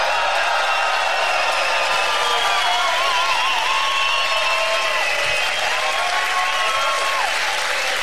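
Sustained, loud applause from a live audience at a show in the Experion, Hamburg, a dense steady clatter of clapping hands lasting the whole stretch, with some whistling and cheering rising above it and no one speaking.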